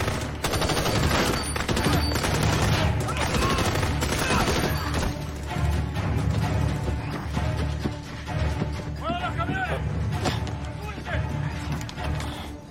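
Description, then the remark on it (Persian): Heavy, sustained gunfire during an air attack on a ship by aircraft, with rapid overlapping bursts and sharp cracks filling the whole stretch, loud and dense throughout, while shouting voices break through the barrage near the end. “یه هواپیما داره میاد سمتتون. بهمون حمله شده. به ناومون حمله کردن.”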